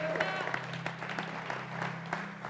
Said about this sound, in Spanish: ¿Puedes dar un fuerte aplauso a Dios por eso?